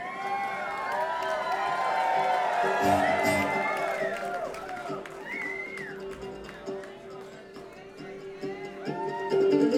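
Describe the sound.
An audience applauds, cheers and whoops after a song, continuously for about ten seconds, many voices overlapping in rising and falling shouts over a steady low hum, swelling louder again at the end.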